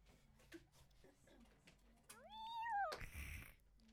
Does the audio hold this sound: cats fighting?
yes